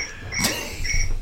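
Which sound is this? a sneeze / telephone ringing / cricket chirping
cricket chirping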